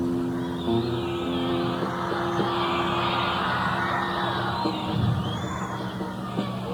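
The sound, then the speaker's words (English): A large crowd roars and yells continuously, a dense wall of many voices holding steady at a loud level throughout, with no single voice standing out. “Oh, there they are. I can hear them yelling.”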